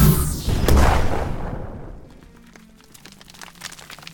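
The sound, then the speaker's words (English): A plasma cannon blast hits with a loud boom and rushing roar that fades over about a second, leaving scattered crackles and small pops trailing off. No voices. “Plasma cannon, everyone down!”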